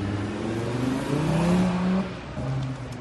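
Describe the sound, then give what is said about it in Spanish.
The engine of a discreet car hums steadily and then rises in pitch as it pulls out of a hotel parking lot at low speed, a continuous rumble with a brief dip before it picks up again. “Y después se marchaba el delantero con toda la prisa del mundo por evitar cualquier tipo de fotografía en la parte de atrás de un coche, de un discreto coche, que salía así de ese parking del hotel.”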